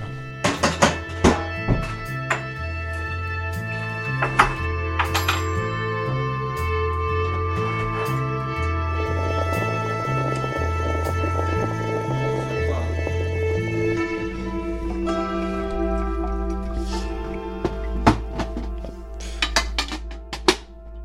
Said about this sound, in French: Ah, pas du tout, je fais le meilleur café du monde, j'ai une cafetière italienne.